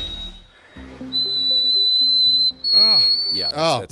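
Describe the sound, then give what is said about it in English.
An extremely high, piercing sung note held steadily for several seconds, thin and whistle-like, rising slightly near the end over lower vocal sounds and warbling tones. “This guy actually sings... an E in the eighth octave, audio frequency 5,243 hertz.”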